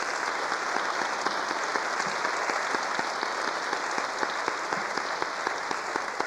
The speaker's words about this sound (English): And if those host families that are hosting people in their homes, would you stand right now, please, that are here? Everyone, please stand. Let's give them a wonderful round of applause.